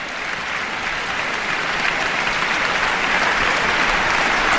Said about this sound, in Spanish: Nos gustará mucho ver a menudo a Nikolai Lugansky en las temporadas de la OBC, y el público está aquí aplaudiendo a rabiar esta brillante interpretación de una partitura que siempre tiene el éxito asegurado.